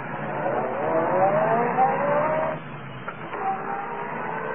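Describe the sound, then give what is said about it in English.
A car engine is started and revs up with a steadily climbing whine for about two seconds, then drops back to a lower, rougher running hum, with no voices. “Well, then start this car.”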